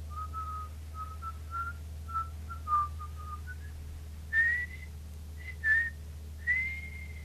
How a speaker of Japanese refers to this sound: 落ち着け、落ち着くんだ。こんな時は口笛でも吹いて。